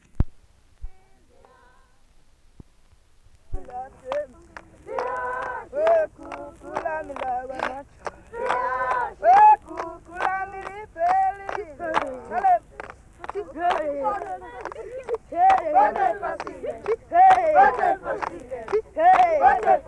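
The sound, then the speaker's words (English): A group of Zulu boys and girls in South Africa sings music for the Ndlamu dance in unison, setting the rhythm by clapping their hands: steady, sharp hand claps keep a brisk, even rhythm throughout after a brief quiet opening. “Here's a group of Zulu boys and girls singing this dance while they set the rhythm by clapping their hands.”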